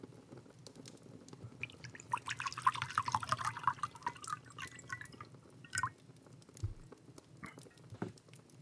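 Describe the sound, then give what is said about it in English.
Water splashes and patters steadily into a pot, to be boiled for supper, with dripping and faint clatter around it, moderately loud, then trails off into quiet handling sounds. “It'll take a little while for the water to boil.”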